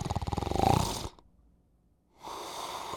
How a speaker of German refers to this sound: dann kommt es nicht nur zur Engstellung des Rachens und zum Schnarchen